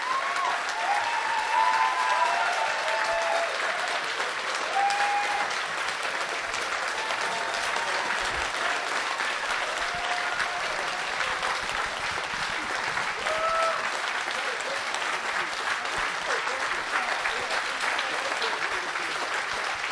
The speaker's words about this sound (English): So can we have a round of applause for the entire team? A round of applause for the speakers.